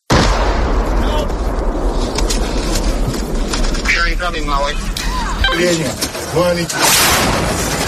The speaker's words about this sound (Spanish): Las bombas, los disparos no dejan de caer en las distintas ciudades de Ucrania y los civiles se ven totalmente atrapados.